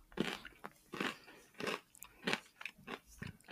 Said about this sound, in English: Do we need to put a disclaimer here for all the people who don't like chewing noises? It's okay. I don't think it'll come out that strongly.